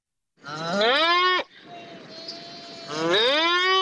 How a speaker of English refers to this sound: That is a cow. Wrong. It's an ox? It's an ox!